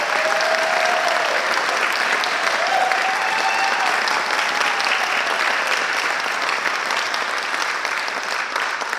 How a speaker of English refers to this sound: We're going to give them a big round of applause. The Oroville Community Concert Band.